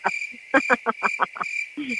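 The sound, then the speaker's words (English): A cricket-chirping sound effect: a steady, high-pitched trill, with a quick run of rhythmic pulses over a continuous buzzing tone. Clear, with no voices. “And by the way, I really love the fact that I mentioned Alexander Julian to a North Carolina fan, and I got crickets on that one, guys. Crickets.”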